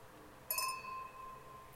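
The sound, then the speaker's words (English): A single bright clink of glasses touching in a toast to new beginnings, followed by a clear ringing tone that slowly fades out over about a second, fairly soft against a quiet background. “Yeah, cheers to new beginnings for you guys.”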